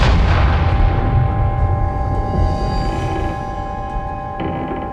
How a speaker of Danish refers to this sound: Så skubber mændene kanonløbende ud gennem en luge i skibet. Og så er det bare fyre og ild i lunden, og mændene når lige at holde sig for ørerne, som ellers allerede er proppet med store totter af uld. Og så kommer braget.